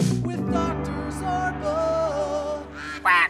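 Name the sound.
duck quack sound effect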